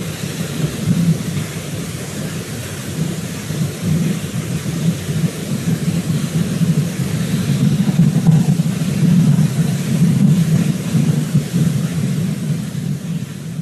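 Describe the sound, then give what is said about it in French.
Muffled, low droning hum of the small Ingenuity Mars helicopter taking off and flying above the Martian ground amid Martian wind, recorded by a microphone on the SuperCam camera built in Toulouse: a steady rumbling whir throughout, swelling slightly louder in the second half, with no voices. “Ce micro a pu capter le son du vent sur place et aussi le son du petit hélicoptère Ingénuité lorsqu'il s'est envolé au-dessus du sol martien.”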